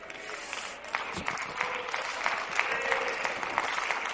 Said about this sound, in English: That's right. You believe what you're clapping about. You believe what you're expressing.